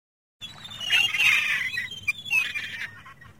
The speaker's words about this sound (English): That looks like someone is crashing something very loud in my ear. Oh. These ones steal your chips on Blackpool Beach. Oh, the seagulls. A seagull, yeah.